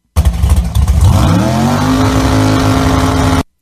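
A loud drag racing car roars off the line down a racetrack, its engine note climbing steadily in pitch as it accelerates hard for about three seconds before cutting off abruptly.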